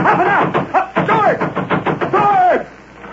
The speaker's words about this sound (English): You turn and start pounding on the door and shouting frantically.